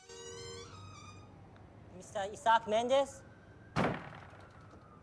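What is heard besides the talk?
door swinging open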